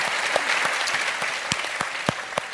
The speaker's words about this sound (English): and I love the way you put it, and that's definitely worthy of applause.